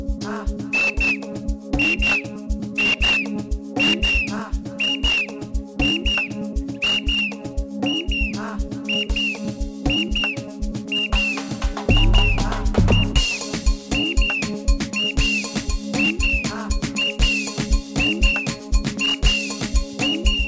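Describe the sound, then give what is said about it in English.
Short, shrill whistle blasts repeat about once a second in a steady rhythm, sounding over a continuous musical backing with low sustained tones. No one speaks. “I came right here with my whistle.”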